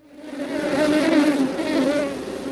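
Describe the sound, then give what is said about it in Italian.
Bees buzz steadily, a dense droning hum that swells in after a brief silence and holds for a couple of seconds, with no voices. “Cominciamo con il miele e le api.”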